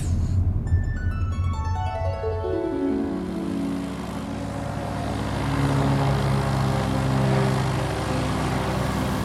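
A propeller mail plane's engine drones steadily and loudly, heard from inside the cargo hold of an Aéropostale plane full of mail sacks, its pitch sliding downward as it revs through the opening seconds before settling into a continuous throbbing hum.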